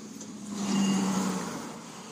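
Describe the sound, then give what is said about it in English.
A single vehicle drives past on a road at about 7:18 on a cool February 9 morning at dawn in West Florida, about 55 degrees, its steady engine hum and tire rumble swelling to a peak midway and then fading out, with no voices over it. “Never ceases when I'm trying to enjoy the quiet of the morning. A vehicle comes by.”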